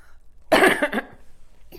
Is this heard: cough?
yes